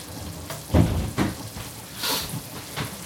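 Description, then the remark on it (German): Cream boils hard and boils over on a stove set to level 3, a steady hiss and bubbling sizzle with a few louder spattering bursts rising out of the noisy texture. “Oh, das kocht ja jetzt so doll.”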